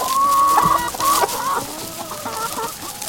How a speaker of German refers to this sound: Was da gackert, sind sogenannte Zweinutzungshühner. Anders als Hochleistungshühner, die entweder aufs Eierlegen spezialisiert sind oder für die Mast gezüchtet wurden, liefern Zweinutzungshühner beides. Genügend Eier und genügend Fleisch.